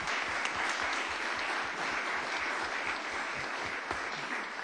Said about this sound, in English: So they are, and you can just stand up and get a round of applause.